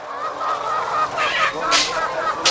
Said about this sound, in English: Walking down a narrow aisle about 100 yards long, we're surrounded by 9,000 hens stacked in six rows of cages. Little conveyor belts bring their feed and take away their eggs.